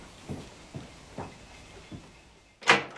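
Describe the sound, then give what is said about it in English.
Four soft footsteps, then a sharp, loud burst as the door at the end of a corridor is pulled open. No one speaks. “So, the door at the end of the corridor.”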